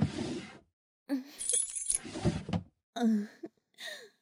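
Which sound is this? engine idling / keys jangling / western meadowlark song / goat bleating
keys jangling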